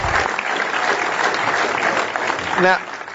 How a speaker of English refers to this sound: Let's give a big round of applause to Matt Welch and Nick Gillespie for sharing their thoughts with us tonight